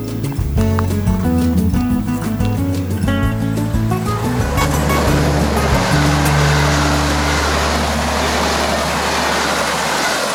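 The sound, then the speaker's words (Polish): A train rumbles past loudly, with rhythmic clattering of wheels at first, then a steady roar of rushing noise and low droning tones that stays strong to the end. “Kiedy tylko pociąg przejedzie, możemy skupić się na zdecydowanie mniejszych i cichszych dźwiękach”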